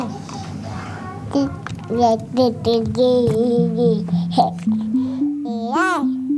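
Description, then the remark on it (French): A baby babbles and coos, a string of short pitched vocal sounds rising and falling, ending in a higher squealing note over a faint background hum. “Je m'appelle Zoé Varier et je vous propose de vous mettre à l'écoute des bébés.”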